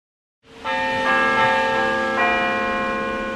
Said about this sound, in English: One evening over dinner, Kent and his wife heard the sound of church bells wafting over from a nearby church. He thought it was pre-recorded. She thought it was real bells.